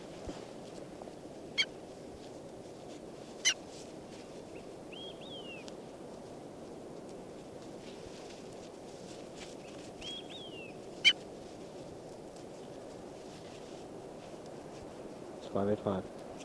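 Faint, brief bird calls come and go over a steady, noisy background, with a few sharp clicks scattered through and a short cluster of louder calls near the end.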